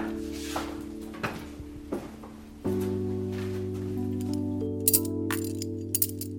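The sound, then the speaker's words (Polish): Small metallic clinks and taps of found metal keys, from whole bunches of keys, being handled in a workshop, with a couple of bright, sharp jingles near the end over a steady low electrical hum. No one speaks. “A w ogóle kluczy to ja mam dużo w pracowni, bo ja lubię klucze.”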